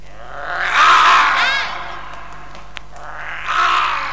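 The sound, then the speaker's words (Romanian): A loud, rumbling lion roar swells and fades, then a second, shorter roar rises near the end, both heard alone with no talking. “Înălțimea voastră, chiar un leu?”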